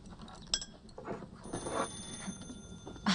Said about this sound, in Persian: تلفنه.